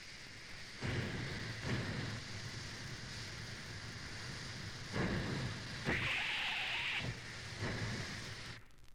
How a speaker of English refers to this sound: There's the train in the station, and our duck hunter is on board. Here are the nostalgic sounds of this old giant locomotive which has passed into history.